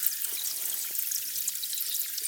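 A microphone submerged in icy lake water with ice fragments in Iceland picks up a steady, dense fizzing and crackling hiss, with faint scattered pops and chirps, without any talking.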